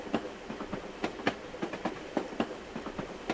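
A moving train carriage rattles along, with repeated sharp clacks of the wheels over a steady rumbling hum, at a moderate volume and with no voices.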